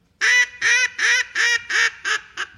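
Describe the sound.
A duck call, used to call in birds while duck hunting, sounds six loud, nasal quacks in quick succession, evenly spaced, the last one shorter and softer, with no talking over them.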